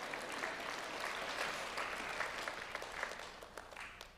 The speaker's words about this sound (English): If you're going to clap, you got to clap.